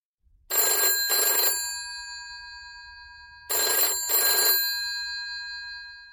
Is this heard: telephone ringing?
yes